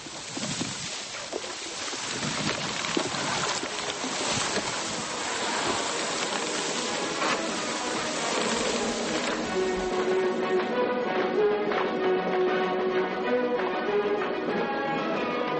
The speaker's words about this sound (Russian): Сейчас будет шуршание камыша. Послушайте.